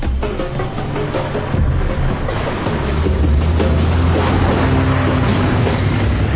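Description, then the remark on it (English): The motorcycle engine of a guard following a truck drones loudly and steadily, its low rumbling note shifting slightly as it keeps pace, with a rushing wash of road noise and no voices. “It's a motorcycle guard following the truck.”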